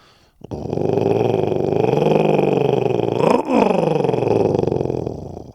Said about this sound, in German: Als Merlin sich gerade verabschieden will und sich zum Weggehen umdreht, ertönt plötzlich ein gruseliges Knurren.